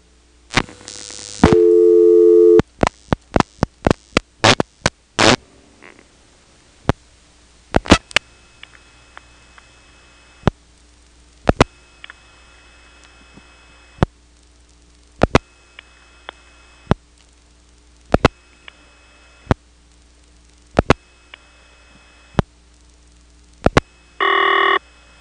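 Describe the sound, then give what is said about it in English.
A brief tone, then rapid trains of sharp telephone dialing clicks as the director is dropped and 6 is dialed for the tandem, 8 for prefix 338 and four digits, followed by a faint repeating ringing tone of a 338 number in Elizabeth City, punctuated by regular clicks, with a short tone burst near the end. No one speaks. “Here's a ringing number in 338 reached by dropping the director and then dialing 6 for tandem, 8 for 338, and 4 digits.”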